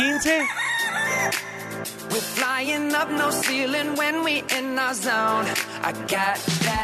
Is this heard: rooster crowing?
yes